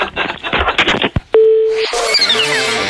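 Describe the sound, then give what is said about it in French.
After a muffled jumble of noise, a single steady telephone busy-signal tone sounds for about half a second, clear, because a call was not hung up, then gives way to swooshing jingle-like effects. “Ah ouais, et puis il y en a vraiment qui ont un problème pour accrocher leur téléphone.”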